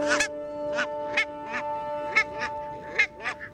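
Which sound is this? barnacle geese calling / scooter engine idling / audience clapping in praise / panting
barnacle geese calling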